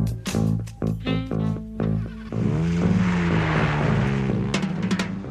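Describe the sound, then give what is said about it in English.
Car engines crank to life with a rapid series of sharp bursts, then rise into a loud, sustained rev that climbs and wavers in pitch. Powerful, with no talking. “Next time, start your engines.”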